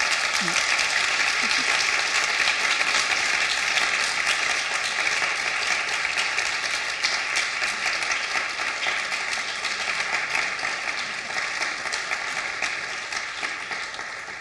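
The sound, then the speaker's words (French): Sustained audience applause at a conference, thanking two guest speakers. It is a dense wash of many hands clapping steadily at fairly high volume, tapering slightly toward the end, with no speech over it. “On va vous remercier encore une fois, toutes les deux, vous applaudir.”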